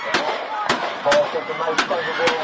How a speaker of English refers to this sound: Two people were shot, identified as an adult and child, in the gunfire. It sent fans running for their lives from the stands, the high school football players sprinting off the field to take cover.